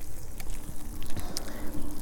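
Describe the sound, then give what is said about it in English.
Water sprays steadily from a garden sprayer being used for watering, a continuous hiss with irregular spatters and a low rumbling undertone throughout. “I think something's wrong with my sprayer as I am trying to water and hold my phone with the microphone, so I hope you can hear me okay.”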